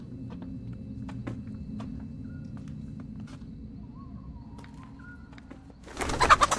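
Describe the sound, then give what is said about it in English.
Soft, low bird murmuring and scattered faint clicks run steadily, then a sudden loud, rough burst of flapping wings erupts at the very end as a chicken flutters down in a dark yard by an outbuilding at night. “A chicken flutters down into his path.”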